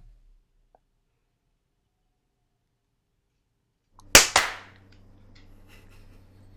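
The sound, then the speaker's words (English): After a long stretch of near silence, two sharp, loud hand claps crack out in quick succession as clocks reach 12:24, followed by a low, steady background hum. “Someone's clapping.”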